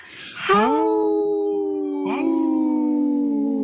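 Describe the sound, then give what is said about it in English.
A person imitates a wolf howl twice: each long, wavering cry swoops upward and then holds a steady tone, loud, with the second howl following right after the first. “We heard Dr. … howling”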